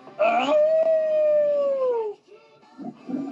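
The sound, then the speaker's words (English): A single loud dog howl rises sharply, then holds a long, slowly falling tone for about two seconds before fading, followed by brief softer rustling sounds. “Just then, the portal opens up with a loud howl as a new ranger steps through.”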